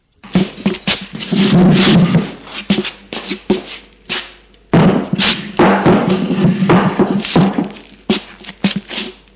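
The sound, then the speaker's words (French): A wooden table is hurriedly dragged and carried over to be set beside a man, with scraping, shuffling and several dull thuds as it knocks about and is set down, ending in a few lighter knocks. “Stéphane court prendre la table et la porter à côté de Charles.”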